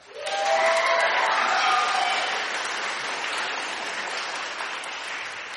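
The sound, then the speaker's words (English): Loud, sustained applause from a live studio audience from Skultrasa in Firhouse, Dublin, for the Donegal Youth Orchestra and Choir: a dense wash of clapping that surges in quickly and holds steady, with a few cheers and whistles riding on top near the start. “And if you're listening at home, you'll just have heard thunderous applause from our live studio audience.”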